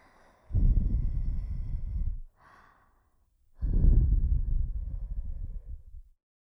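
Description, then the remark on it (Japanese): Two long, soft exhalations of breath blown into the ear, each lasting about two seconds, with a brief faint puff between them. Airy and gentle, with no voice. “これまで強かった耳吹きから一転、くすぐったく感じるくらいに優しい吐息。”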